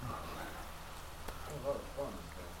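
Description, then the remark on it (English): A soft, steady patter of rain falls throughout, a continuous gentle hiss with one sharp tap partway through and faint muffled voices underneath. “I love the rain.”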